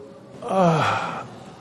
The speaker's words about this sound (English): Open your jaw wide, deepen your breath a little bit. You might see if you can invoke any sounds. Can you invoke the yawn reflex?